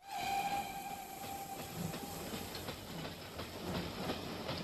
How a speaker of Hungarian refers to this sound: Amikor a vonat kirobogott,